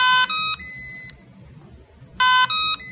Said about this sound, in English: it's called acoustic, as it does a series of beeps to let you know the strength of the battery